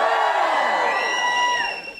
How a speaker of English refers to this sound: Give us a cheer if you're in the feminist tribe. Give us a cheer if you're in the guilty tribe.